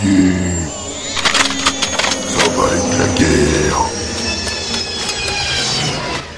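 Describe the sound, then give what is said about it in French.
A flying car coming from outside, heading straight toward the listener: a loud, sustained mechanical roar with high, steady whining tones and metallic squeals, broken by sharp clattering clicks throughout. No one speaks. “Bon sang, on dirait une espèce de bagnole volante.”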